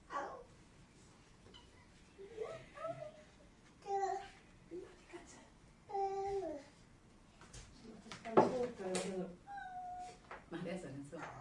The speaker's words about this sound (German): Katzen. Du hältst die Katze nochmal. Miau!